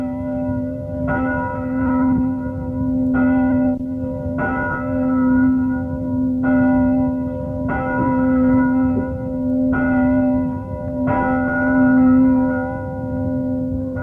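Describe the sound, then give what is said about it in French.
Church bells ring out in a steady, repeating peal, each strike leaving a long humming resonance that overlaps the next, fairly loud and continuous with no voices. “Allons, bon, voilà les cloches.”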